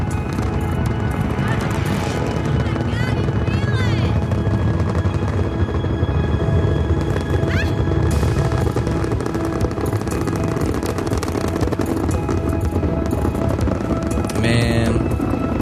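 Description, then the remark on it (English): A helicopter roars with a dense, steady rotor churn that holds at full loudness for the whole stretch, punctuated by brief higher-pitched whines. “Got a helicopter up there in the back.”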